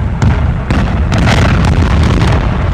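The demolition blast of the old Connors Creek Power Plant building on Detroit's east side, demolished by DTE: a loud, sustained roar of explosive rumble with sharp cracks and pops bursting through the first second, deep low-end booming throughout, and no voices.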